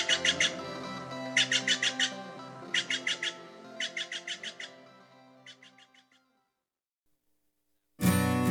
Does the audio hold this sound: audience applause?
no